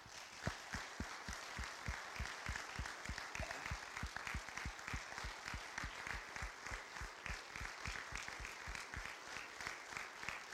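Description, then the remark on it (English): A crowd at Palmyra Grace applauds steadily to thank a visiting speaker, many hands clapping in a dense, rhythmic wash that stays loud and even for about ten seconds with no one speaking. “And so if you would join me in thanking him with a round of applause.”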